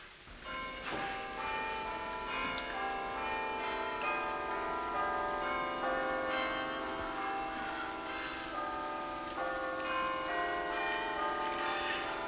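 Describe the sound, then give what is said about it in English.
Church bells peal continuously in a dense, overlapping cascade, their bright ringing tones layered and sustained throughout, heard clearly with no voices present. “The bells.”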